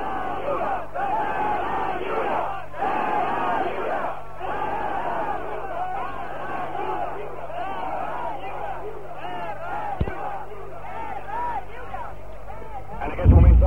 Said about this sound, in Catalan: Ara mateix passem per davant d'un grup que està cridant. Donem-los-hi veu a la veu.